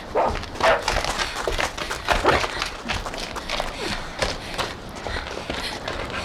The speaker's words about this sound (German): Nanu, hörst du das? Ja, er bellt, als hätte er was entdeckt. Bestimmt nur eine Maus, mit der er spielen will.